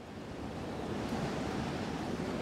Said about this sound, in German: Heute ist es sehr windig. 9 Uhr. Es gibt Sturm.